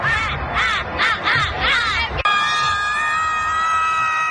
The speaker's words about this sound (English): Some girlfriend yelling and screaming on a cell phone?